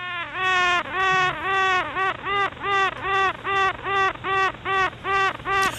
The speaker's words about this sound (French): recueillis par les chercheurs Yves Leconte de l'INRA Avignon et Martin Benzig de l'Université de Nottingham. Ce chant d'une reine des abeilles fait un peu penser à des mammifères marins, un chant de baleine pratiquement